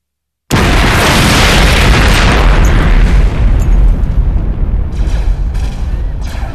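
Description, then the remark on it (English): A loud explosion of a detonated mine among rocks bursts in suddenly after a brief silence, its broad roar rumbling and slowly fading over several seconds with crackling debris-like noise of dirt clods and shattered rock fragments in the tail. “The explosion threw Anakin to the ground.”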